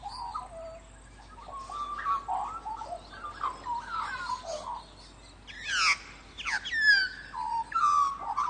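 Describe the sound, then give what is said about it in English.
A magpie sings a rich, warbling song of fluting whistles and chortles that rise and fall in pitch, growing brighter and louder with sharp sweeping notes toward the end. No voices. “So you get regional variations, you get territorial variations, and each has a stamp of individuality and of that bird on it.”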